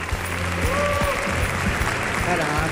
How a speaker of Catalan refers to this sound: Un aplaudiment.